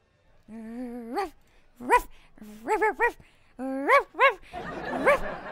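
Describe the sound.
A person on all fours imitates a dog, letting out a string of yelping, whining barks that rise in pitch, fairly loud, ending with a burst of noisy crowd sound.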